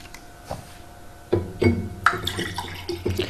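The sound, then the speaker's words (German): Water splashes and pours as someone gets some water, broken up by a few sharp clunks and knocks from a water bottle being handled, with no one talking. “Warte mal kurz, ich hole mir mal kurz ein Ja, Wasser.”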